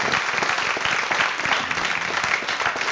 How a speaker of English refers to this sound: Let's give her a little clap offering, a little clap. Yeah.